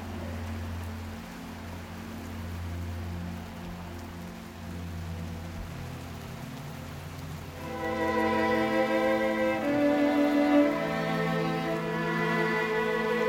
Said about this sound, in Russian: И тогда снова начинает лить дождь.